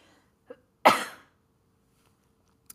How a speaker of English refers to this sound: Oh, pardon me, I'm going to cough.